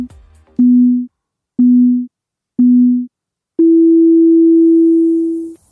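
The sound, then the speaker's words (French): Three short, loud electronic beeps spaced about a second apart, followed by one long sustained beep at a slightly higher pitch, a countdown signal on a radio show marking the start of a participant's turn, with no one speaking. “c'est à toi après le bip.”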